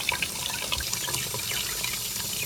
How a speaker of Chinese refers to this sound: 找到了，这里有两个水龙头没关紧，水在滴滴答答的流。哇，这个水龙头被人转到最大，根本没人在用，水就白白冲进排水孔。